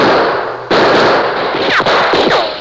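A loud, sustained exchange of gunfire between men sheltering behind boulders along a trail and men at a shack window erupts after a brief pause, dense bursts of shots overlapping, with a couple of whining ricochets cutting through. No one speaks.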